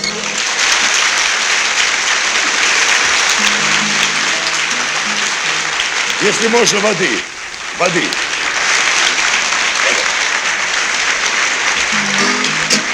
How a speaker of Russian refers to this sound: Спасибо, дорогие. Вы знаете, я вам так скажу, я уже это об этом говорил, аплодисменты — это очень приятно. И действительно, это когда так благодарят, да еще поутру так рано. Вот, это очень приятно.